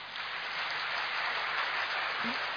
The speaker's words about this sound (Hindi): तो इतनी बड़ी प्राप्ति के आप अधिकारी इस माउंट आबू भूमि पर आकर बन गए, तो खुद के लिए खुशी की तालियां तो बजाएं।